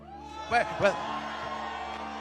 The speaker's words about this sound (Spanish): Yo quiero que en esta hora, para entregarle a la pastora, al apóstol, bueno, o a la persona que viene ahora, que todos demos un grito de victoria.